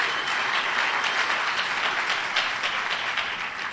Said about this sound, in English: Guy over here is really clapping. Boy, FBI was looking for him.